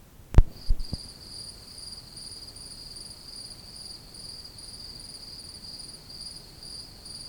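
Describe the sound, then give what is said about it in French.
A cricket trills in one unbroken, monotonous drone against a quiet background, preceded by a few sharp clicks at the very start. “Un grillon, impossible à repérer, émit son grésillement monotone.”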